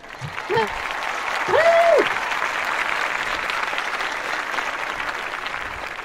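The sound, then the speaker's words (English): A crowd at the Writer's Block welcomes a guest with steady, dense applause filling the whole stretch, with a couple of short shouts early on and one long rising-and-falling whoop of a cheer. “The crowd goes wild.”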